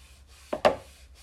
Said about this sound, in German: Wenn der Regen aufhört, wird es neblig. Dazu reibe ich meine Hände auf eine Oberfläche.